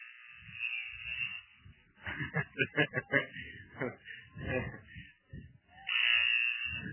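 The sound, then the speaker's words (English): A harsh, steady scoreboard buzzer at a Bulldogs football game drones for about a second at the start and sounds again near the end, at the start of the third quarter before the clock is reset, with a man talking in between. “Arietta is going to be the deep man, and the scoreboard is just buzzing at us.”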